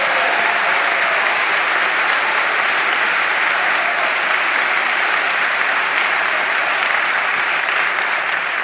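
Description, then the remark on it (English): Loud, sustained applause from a large audience for a young man who had told his story, a dense steady wash of clapping hands that holds at an even level for the full stretch, with no voices rising above it. “Would you guys give Jason one more big hand?”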